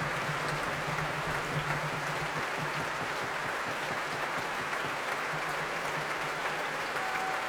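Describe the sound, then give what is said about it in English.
A large concert audience applauds steadily, a dense, continuous wash of clapping with scattered cheers rising from within it, sustained and fairly loud throughout. Conductor Zachary Oromo brings each section of the Royal Stockholm Philharmonic to their feet, and the loudest cheers go to the two timpani players. “The cheers you can hear as Zachary Oromo brings each section of his orchestra to their feet.”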